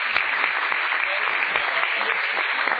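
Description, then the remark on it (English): An audience applauds steadily to show they have bought something off Craigslist, a dense wash of many hands clapping at once, fairly loud and sustained without a break, with no voices over it. “I thought we would take a survey and would you let us know by applause if you've ever bought something off of Craigslist?”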